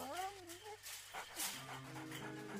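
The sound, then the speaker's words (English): A dog whimpers in a short run of high, wavering whines that rise and fall, followed by softer drawn-out whining under a steady background hum; it is a ghost dog pushing a shopping cart in a GEICO advertisement. “Ghost dog can't help anybody with anything.”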